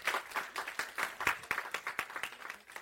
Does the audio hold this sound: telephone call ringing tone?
no